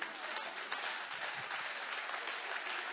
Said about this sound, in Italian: Oh, se lo credi, daglielo forte questo applauso alla parola di Dio.